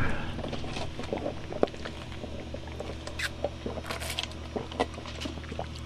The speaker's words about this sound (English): I'm still here, grabbing a sip of Diet Cola and picking my shirt up off the cold concrete floor of this studio.